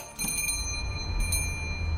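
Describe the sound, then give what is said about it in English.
A store's main door swings open and a bright shop bell jingles, its high ringing tones sustaining with a second light strike about a second later. No one speaks. “Limping my way down the aisle, I prepare to flop down on the couch when I hear the main door behind me open.”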